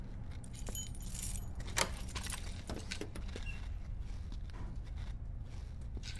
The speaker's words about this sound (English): Got a security door coming up. No way of getting through that without... There's keys in the door.